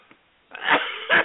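human body sound, cough

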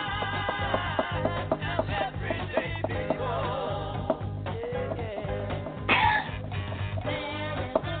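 human body sound, cough

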